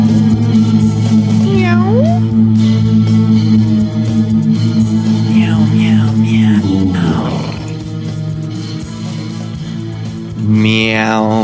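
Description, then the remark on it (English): Several drawn-out meows, voices of men imitating a cat, rise and fall in scattered bursts over a loud, steady droning musical backdrop, with a final whiny meow near the end. “Meow with me, fellas. Meow. Meow.”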